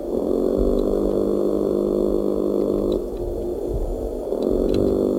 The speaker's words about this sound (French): On dirait vraiment un bruit de moteur, c'est ouais, quoi? Ouais, c'est étrange. Quel poisson? C'est le maigre. Ah oui. C'est le chant d'amour du maigre. C'est souvent des chants d'amour, hein, des mâles. Ça s'entend depuis la surface.